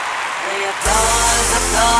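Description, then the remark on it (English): An applause track: after a brief quiet moment, a burst of loud applause and crowd cheering erupts and continues steadily, dense and hissy with some vocal whoops mixed in. “I think we should have an applause track in there or something.”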